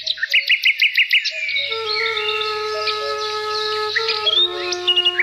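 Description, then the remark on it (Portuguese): Birds singing: a quick run of sharp repeated chirps opens, then sustained high whistling notes and tweets overlap, with a faint low hum underneath and no voices. “Mas para escutar os pássaros, é preciso que cesse o bombardeio.”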